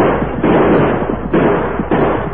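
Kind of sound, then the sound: sound effect, volley of gunshots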